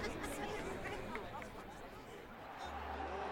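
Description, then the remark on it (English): Dense crowd chatter of a festival gathering at a celebration on Camarania in the Outer Rim, many overlapping voices forming a steady, even babble with no single speaker standing out, plus a low hum entering near the end. “I reluctantly agreed, allowing Sifo-Dyas to drag me further into the crowd, unaware that not far away, nobility was gracing the festivities.”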